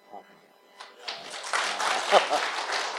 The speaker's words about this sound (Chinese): 好，感谢神，我每一次都会提醒大家，其实这个掌声不是归给我们，掌声是归给我们荣耀的神。所以呢，当我们演唱完毕，你可以尽情的拍手。